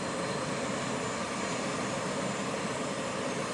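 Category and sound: vehicle, airplane engine running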